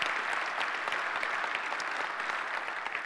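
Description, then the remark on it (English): A church audience applauds to welcome its audiences in Wyoming, Michigan, and Nagpur, India: a steady, dense wash of many hands clapping at an even level for about three seconds with no voices rising above it. “Would you welcome them by way of applause?”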